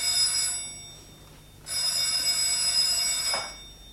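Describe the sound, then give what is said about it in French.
An old telephone bell rings in two bursts for a call from Monsieur Bergson to Madame la Comtesse: a short ring, then a longer, insistent trill, loud with a pause between them; no voices. “Monsieur Bergson au téléphone, Madame la Comtesse.”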